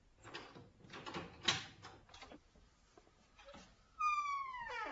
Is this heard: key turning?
yes